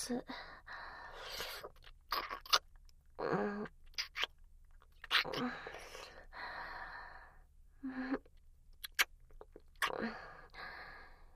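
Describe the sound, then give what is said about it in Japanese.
Soft, gentle kissing sounds come in short, wet smacks spaced a second or two apart, mixed with gentle breaths and small gasps in a quiet setting. “優しいキスだ。”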